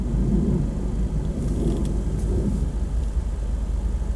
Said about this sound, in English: Why is there a jet fighter at 11 o'clock in the morning over Pompano Beach? That shit sounds terrifying.